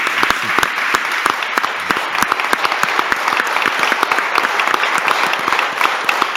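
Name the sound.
audience applause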